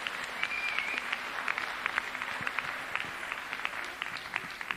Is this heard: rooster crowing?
no